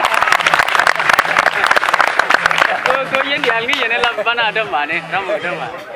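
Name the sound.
audience clapping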